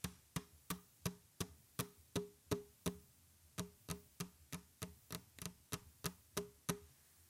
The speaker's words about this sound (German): Geräusche wie das sanfte Kratzen auf einer Oberfläche, das Klopfen auf Holz oder Plastik oder das Rascheln von Papier sind sehr beliebt. Und das mache ich natürlich für dich jetzt.